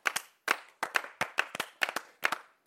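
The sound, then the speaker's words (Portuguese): Audience applause for a guest being introduced on stage, heard as a brisk, steady run of crisp, distinct hand claps, often falling in quick pairs, fairly loud and with no voices over it. “Uma salva de palmas.”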